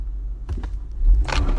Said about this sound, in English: What the? Come on, man. So, obviously, some person just hit into my car.